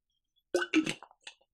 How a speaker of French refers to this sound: Je reprends une gorgée avant de commencer.